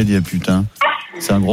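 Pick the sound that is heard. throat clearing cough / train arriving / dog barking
dog barking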